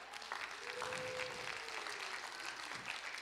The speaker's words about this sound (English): Actually, can we give a round of applause to our media team real fast?